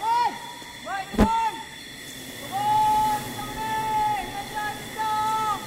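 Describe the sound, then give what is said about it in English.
A honey hunter's call to bees in a forest: a man standing at the base of a tree sings long, steady, hooting notes with a few swooping rising and falling glides at the start and one sharp knock, over a constant background hiss. “stands at the base of the tree, serenading the bees with the call that's echoed throughout this forest for centuries.”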